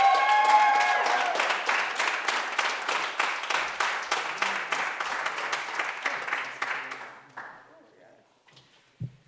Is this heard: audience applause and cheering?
yes